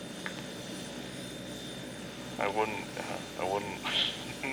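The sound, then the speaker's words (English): A steady, loud helicopter engine and rotor drone fills the whole recording, with muffled voices speaking in short bursts over it toward the end. “You were like, okay, you want to fly in a helicopter?”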